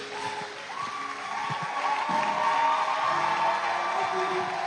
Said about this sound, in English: Were you blessed tonight? Give the Lord a powerful hand clap as you sit in his presence.